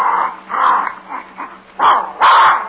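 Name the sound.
dog barking and growling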